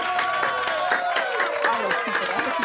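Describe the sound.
Warm, steady applause from a crowd for a quiz caller who correctly guessed Tadeusz Kościuszko, a dense wash of clapping that holds for a few seconds, with some voices cheering and calling out in the mix.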